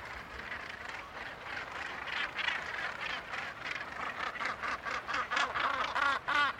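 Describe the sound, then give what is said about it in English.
A gannet colony of about 3,000 birds at Troop Head calls in a dense, continuous chorus of harsh, rasping cries, many birds overlapping, with a stronger pulsing rhythm of repeated calls toward the end. “Whatever's happening out at sea, which is affecting so many other seabird species, the gannet seems able to cope with it.”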